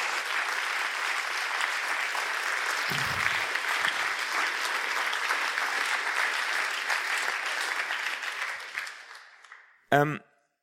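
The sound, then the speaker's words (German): Sustained audience applause given in thanks to a speaker, dense and steady for about nine seconds before tapering off, followed by a brief spoken word at the end. “Lass uns ihm einen herzlichen Applaus geben.”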